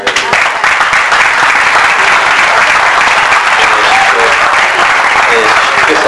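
An audience applauds the host who received the group, a dense wash of many hands clapping at once that stays loud and even for several seconds without letting up.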